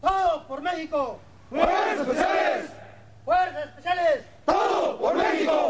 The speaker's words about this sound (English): Before missions against drug cartels, Mexican Army Special Forces pledge loyalty to their country. They yell out, everything for Mexico.